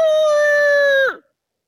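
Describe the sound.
A person's voice imitates a rooster's crow, a single loud, sustained, strained call held for about a second before dropping off abruptly, with no other sounds.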